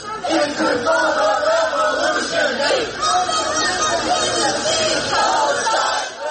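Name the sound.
protesters shouting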